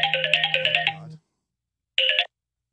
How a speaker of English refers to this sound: Had a phone call pop up.